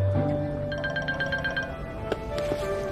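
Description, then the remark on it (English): A mobile phone ringtone plays steadily for a few seconds from a woman's phone in her pocket in her office, a bright repeating electronic melody of pulsing tones, with no one speaking. “She reaches into her pocket and answers her phone.”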